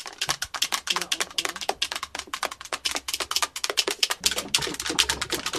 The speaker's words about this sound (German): Dieses vielversprechende Geräusch, liebe Hörer, stammt von zwei Würfeln. Wir sind ganz ehrlich, eigentlich wichtelt man aber nur mit einem Würfel.